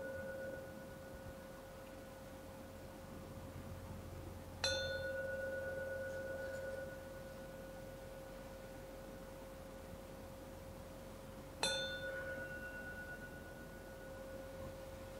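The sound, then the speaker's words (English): A gong rings out with a steady, sustained tone, then is struck twice more about seven seconds apart, each hit blooming into a long, humming resonance that slowly fades. No one speaks. “I'm going to ring the gong 3 times, and at the end of the 3rd gong, you may open your eyes.”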